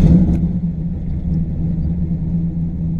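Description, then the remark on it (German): A car engine revs on a street in the city centre of Mannheim, Germany, lined with street cafés, holding a steady, loud, low rumbling drone, with a brief clatter right at the start and no voices. “Quadratisch angeordnete Straßen, Häuserblöcke, Straßencafés mit direktem Blick auf vorbeifahrende Autos.”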